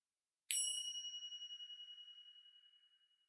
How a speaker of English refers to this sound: For the remainder of this segment, we invite you to continue the process of silent reflection until you hear the next chime.